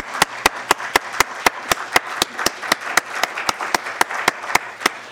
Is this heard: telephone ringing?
no